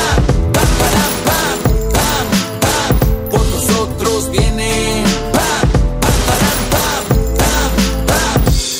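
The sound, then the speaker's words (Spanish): Bursts of rapid gunfire crack repeatedly over loud, steady music with brass and drums, the shots arriving in short volleys throughout. “Y las armas suenan. Pam, pam, pam, pam, pam, pam.”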